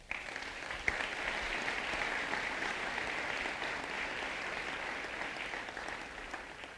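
A crowd at a building dedication ceremony applauds steadily, a dense wash of many hands clapping at an even level for several seconds with one sharper clap early on and no voices over it.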